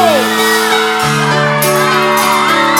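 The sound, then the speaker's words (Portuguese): A large concert crowd screams and cheers loudly and continuously, with high-pitched shrieks and whoops rising over a dense wall of voices for the whole stretch. “Cadê o gritinho?”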